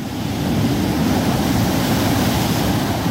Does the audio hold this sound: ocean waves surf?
yes